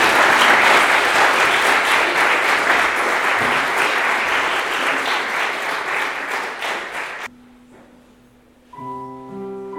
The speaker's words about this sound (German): Danke vielmals. Herzlichen Applaus für die zwei.